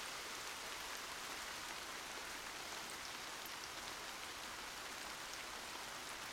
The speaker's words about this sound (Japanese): 雨音も雷の音も優しく聞こえる。あなたと一緒だから。